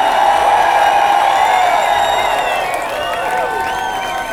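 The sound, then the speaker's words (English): A crowd screams and cheers loudly and continuously, many high-pitched voices overlapping into a sustained roar with shrill rising and falling shrieks throughout. The audience is cheering for a band. “They're just getting ready to do a long drive, so if you scream real loud, it might make them feel real good as it's fun.”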